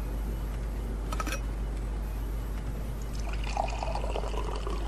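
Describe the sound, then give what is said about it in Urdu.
Water pours steadily into a glass, a continuous splashing trickle whose pitch rises slightly as it fills, over a low background hum with no talking. “گھر پانی؟ شکریہ.”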